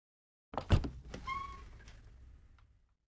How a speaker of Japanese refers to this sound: 廊下の突き当たりには青い扉がありました。そして彼女は扉を開けます。